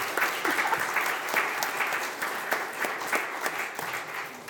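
A crowd applauds steadily, dense clapping from many hands filling the space at a moderate, even level throughout, with no voices standing out.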